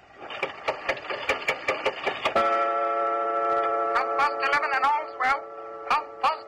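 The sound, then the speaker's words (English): An antique clock made by Johannes Carver of London in 1752 ticks steadily and quickly as its glass face is opened and its hand pushed forward, then a loud droning mechanical tone sets in, wavering and inflecting like a machine trying to speak, with sharp clicks still cutting through it. “Only the clock, madam. Nothing more. The clock spoke.”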